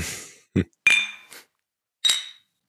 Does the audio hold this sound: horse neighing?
no